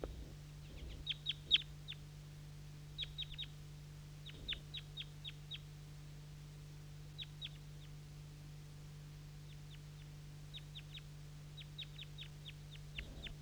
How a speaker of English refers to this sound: So recording, these wild birds don't want to respond to bird 4-3 down here, and I'm still recording the wild birds. A whole bunch of them interacting in the maple, and there's some goldfinches here in the cherry tree.